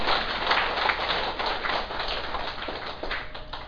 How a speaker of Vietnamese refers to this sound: Quý vị thấy ở nơi đó, xin vỗ cho một tràng pháo tay trước đã chứ hả?